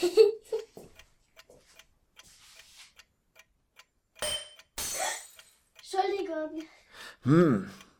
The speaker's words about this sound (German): Warum hast du eigentlich so viele Uhren? Hä? Die brauche ich, um mir die Bedeutungslosigkeit der Zeit vor Augen zu führen.